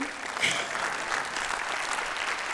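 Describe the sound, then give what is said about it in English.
Light, scattered clapping from about six people, a thin patter of hand claps that holds steady for a couple of seconds at a modest volume, with no voices over it. “That awkward moment when like six people clap and you don't know whether to like wait or like have everybody clap or just like talk like they're not clapping.”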